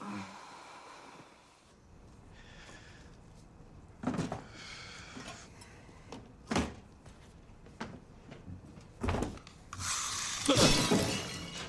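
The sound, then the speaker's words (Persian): A statuette of the Maltese Falcon shatters in a series of sharp cracking impacts, building to a loud burst of breaking pieces and scattered debris at the end, with no talking. “اون دیگه چی بود؟ شاهین مالتی بود.”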